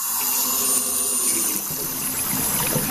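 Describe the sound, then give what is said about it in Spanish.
Water runs steadily, a continuous rushing trickle at moderate volume with no voices, like a tap left open. “Para que esto suceda y tengas agua en perfectas condiciones, en Gesmanclor hay personas que trabajan de manera minuciosa y profesional cada día para poner la naturaleza a tu alcance.”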